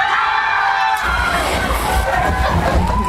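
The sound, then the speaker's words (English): A crowd cheers and shouts with children's voices mixed in, a loud, continuous outdoor roar that swells about a second in and keeps going without a break. “They're cheering us.”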